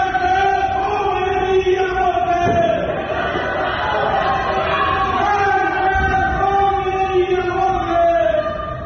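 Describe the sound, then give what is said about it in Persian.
A large crowd in Iran chants anti-government slogans at night, such as "Death to the dictator" and "Death to Khamenei", many voices rising and falling together in a loud, steady rhythmic roar that fills the whole clip without pause. “مرگ بر دیکتاتور، مرگ بر حکومت بچه کش، لعنت بر خمینی و مرگ بر خامنه‌ای ضحاک از جمله این شعارهاست.”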